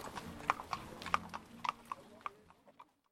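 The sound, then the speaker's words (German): Horse hooves clip-clop on a hard surface in a steady, irregular rhythm, a dozen or so sharp knocks fading slightly toward the end, with faint background murmur, during a festive horse pilgrimage around St. George's Day up to the Senftenberg chapel above the village. “In jedem Jahr kommen um den Georgstag zahlreiche Menschen von nah und fern, um an der festlichen Pferdewallfahrt zu oberhalb des Ortes gelegenen Senftenbergkapelle teilzunehmen.”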